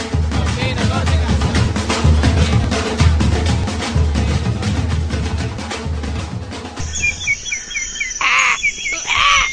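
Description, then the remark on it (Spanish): Dense, loud music fills the first part, then cuts away to a few harsh crow caws, the crow of Comunica, two strong ones near the end, with faint chirpy sounds between them. “Soy el cuervo de Comunica.”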